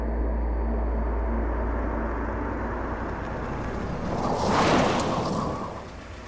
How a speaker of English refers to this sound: It's just before dusk here at the cabins. Car pulls up to the building. There's a squeal of brakes. Car doors open.